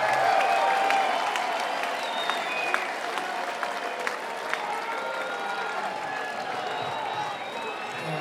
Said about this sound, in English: Thank you so much. Give yourselves a hand. You guys make the music.